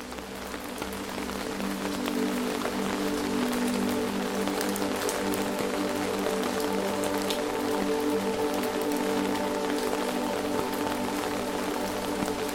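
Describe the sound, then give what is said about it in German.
Steady rain falls through a forest, a continuous hiss scattered with individual drops pattering on leaves, with a soft sustained low hum beneath and no voices. “Der Duft des Waldes mit dem Regen umhüllt dich wie eine unsichtbare, wohltuende Decke.”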